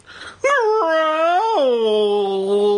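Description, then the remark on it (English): An audiobook narrator imitates a dog growl using a trick that avoids straining the throat: one long, loud vocal sound lasting a couple of seconds. It wavers in pitch, then settles into a lower, steady drone. “there's two growl sounds coming up”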